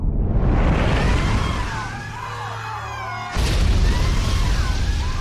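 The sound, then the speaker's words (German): A massive whale body slams into the sea beside the ship Lady Wexham with a loud, roaring splash that churns on, then a second whale's heavy crash surges in abruptly partway through, powerful with no voices. “Unter der Wucht der aufprallenden Körper hatte sich das Schiff bedrohlich zur Seite geneigt.”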